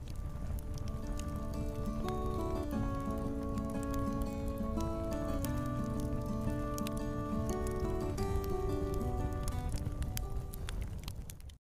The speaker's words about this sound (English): Hey, do I hear a campfire? Do I hear a campfire tune?